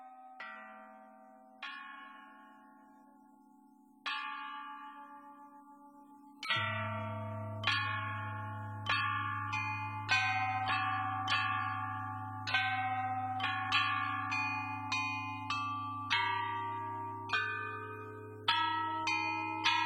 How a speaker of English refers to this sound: Each bell can produce 2 tones when struck on the front and side. The total weight of the bells is over 2.5 tons. It's a living testimony of ancient Chinese court music, and the bells are now protected from use to preserve their condition.